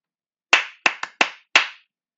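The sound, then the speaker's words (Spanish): Five sharp hand claps in an uneven rhythmic pattern, a rhythm clapped for listeners to answer back, two spaced, a quick pair, then one more, each crisp and bright with a short decay, no voices. “Yo hago el ritmo y ustedes en la mente o con aplausos me responden.”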